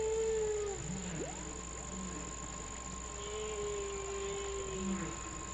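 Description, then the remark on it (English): Long, low whale calls from Henry the Hudson Whale of the Hudson River glide and bend in pitch, with a few upward sweeps and sustained moaning tones over a steady hum of background noise, with no voices present. “This has been your weekly environmental report about the Hudson River with our friend Henry the Hudson Whale.”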